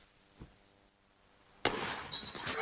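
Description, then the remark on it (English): A single sharp, loud gunshot cracks out after a quiet stretch, followed by a noisy, rattling tail and a second burst of clatter. A faint thump comes earlier. No one speaks. “Someone might have heard the first shot.”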